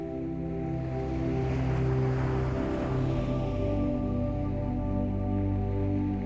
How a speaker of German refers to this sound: Du gehst zum Wasser und lässt die leichten Wellen weich über deine nackten Füße schwappen. Das Meer ist ganz warm und angenehm.